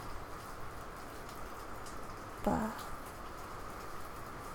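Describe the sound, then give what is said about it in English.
A steady, even hiss of rain with water dripping, continuing unchanged throughout, briefly interrupted midway by a single short spoken word. “And I really can't record anything decent with that in the background and with water dripping all over.”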